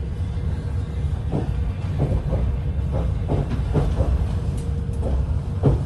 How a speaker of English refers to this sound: After a restful night on the train, as the morning sun shone, we rolled into Kyiv. Arriving in Kyiv.